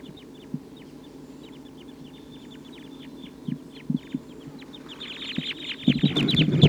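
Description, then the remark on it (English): A flock of about 14 wild Type 2 crossbills, perched in treetops, calls steadily with quick, high chirps repeating throughout, building into a louder, denser chorus of overlapping calls toward the end, with some lower clucking notes mixed in. “The wild birds are getting a lot of calling from the treetops.”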